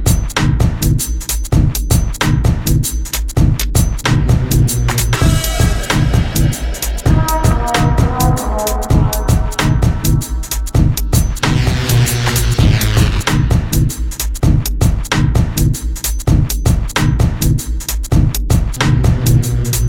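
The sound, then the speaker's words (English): Loud electronic music with fast, cracking distorted beats over heavy, undulating dirty synth bass, broken up by brighter melodic synth phrases that rise and fade; no voices. “with faster beats that crack with distortion and huge undulating slabs of dirty synths that are offset with more melodic phrases.”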